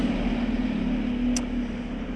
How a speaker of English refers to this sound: Might be a bit noisy for a sec. Big bus going by.